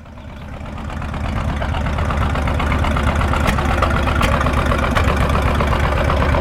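A heavy, old tractor engine idles at the Williams Family Field of Dreams tractor pull in Randolph Center on a July morning after overnight rain, with a steady low rumble and rhythmic knocking, swelling slightly in the first second, then a constant chugging drone with no talking.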